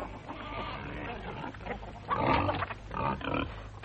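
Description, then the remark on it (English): Daisy, a large pregnant sow, grunts and snorts in rough, throaty bursts, with two louder grunting spells in the second half over a constant low rumble of background noise. “Oh, Here, shall we go and see the pigs, then?”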